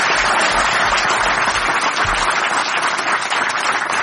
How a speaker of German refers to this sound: Das ist Ihr Applaus. Danke.